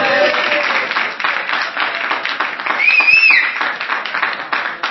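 An audience claps steadily and fairly loudly for several seconds, with a brief high-pitched whoop rising over the applause partway through.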